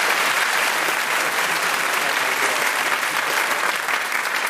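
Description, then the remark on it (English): An audience on The News Quiz claps steadily for several seconds at the end of round one, a dense, even wash of many hands with no pauses or cheering, holding loud throughout and no voices over it. “Round of applause for Giles and Mark.”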